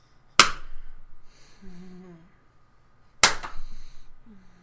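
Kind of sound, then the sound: impact, hand slapping bare buttocks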